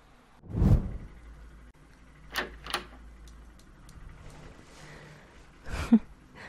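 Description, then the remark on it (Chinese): A door opens with a dull thump as a student called in by a teacher enters without knocking, followed by a couple of sharp latch clicks and another soft knock near the end, with no talking. “知道是老师喊你来，怎么都不敲门的？”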